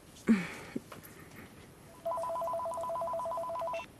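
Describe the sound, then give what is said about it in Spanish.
A telephone rings with a rapid electronic warble for about two seconds, steady and fairly clear, preceded by a brief knock and a small click. “El teléfono.”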